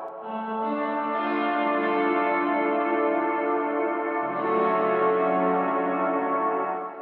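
A sustained, shimmering instrument chord rings out alone, lightly colored by a subtle 1980s rack-mount-style reverb setting with the mix set very low, shifting to a new chord about two-thirds through and holding steady.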